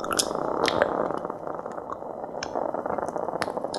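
Sap flowing inside a baobab tree: a steady, dense bubbling hiss peppered with irregular sharp clicks and pops, holding an even loudness throughout, with no voices.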